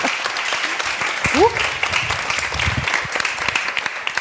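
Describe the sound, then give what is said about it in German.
Steady audience applause, a dense wash of many hands clapping at an even, loud level throughout, with a brief voice rising in pitch partway through. “Und unter Applaus gehen wir natürlich also nochmal unter Applaus, ja wunderbar.”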